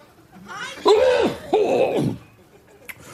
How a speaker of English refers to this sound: And he hasn't quite figured out what to do with his microphone when he needs to cough.